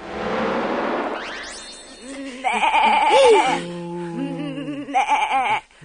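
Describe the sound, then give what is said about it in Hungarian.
A rising whooshing sweep gives way to a wavering goat bleat, then a long, low lowing from a cow, followed by a second shorter goat bleat; loud, with no talking. “ez egy tehén meg egy kecske.”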